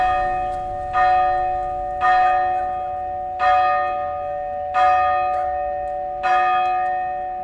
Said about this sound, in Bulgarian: Празничните камбани вече бият.